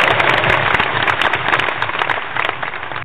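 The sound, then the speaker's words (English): A crowd applauds as a send-off, many hands clapping in a dense, steady burst at even loudness for about three seconds before it cuts off abruptly. No voices are heard. “That is how we send off coons, right? With a clap, soul clap, thumbs up.”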